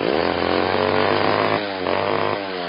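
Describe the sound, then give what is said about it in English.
A loggers' chainsaw roars steadily at high revs as loggers clear-cut the Singer Tract, a Louisiana forest logged by the Chicago Mill and Lumber Company. Its buzzing engine note dips briefly twice as it bites into wood, loud and continuous with no voices. “Politicians and conservationists tried to save the habitat, but the loggers came and they clear-cut the land.”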